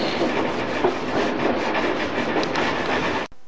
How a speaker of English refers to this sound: Just past the South Tottenham Station, and we're heading over the junction now and dropping Tottenham South Junction.